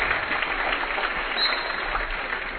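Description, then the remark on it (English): Bearcat basketball fans applaud steadily as player Dow goes to the sideline, a dense, even wash of clapping that holds at a fairly constant level for a few seconds with no voices standing out. “And Dow goes to the sideline, getting a round of applause by the Bearcat fans.”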